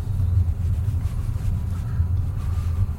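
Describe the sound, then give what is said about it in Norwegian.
Steady low engine and road rumble from inside a moving car, with a couple of soft, dull jolts as the car rolls over a speed bump. “Skjønner ikke hvorfor det laget sånne fartsdumper.”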